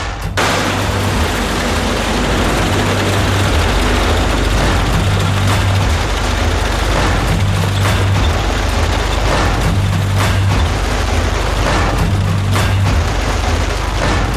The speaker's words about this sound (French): Et là, il y a un grand camion qui doit transporter les poules. C'est pour le ramassage des poulets, ça.